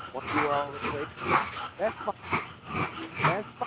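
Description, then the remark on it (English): A dog whimpers and lets out short, high yips, tangled in with a person talking steadily over it. “That's my unfortunate dog.”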